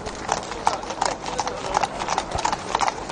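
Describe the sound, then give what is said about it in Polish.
Hooves of several police horses from the mounted unit in Smardzewice, Tomaszów Mazowiecki County Police, clip-clop in a steady, uneven stream of sharp knocks as the horses set off ahead of a company during training, over a constant low background rumble and murmur. “Idziemy, konie ruszają pierwsze, kompania powoli za nim.”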